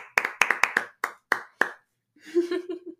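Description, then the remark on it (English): Light, polite golf clapping, a sparse run of about nine soft, uneven claps from a small group, fading out before a voice briefly speaks. “Total, like, golf clap, like.”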